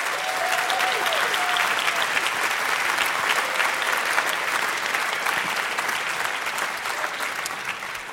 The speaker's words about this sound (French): Voilà, c'était une pièce … que vous pouvez applaudir bien fort.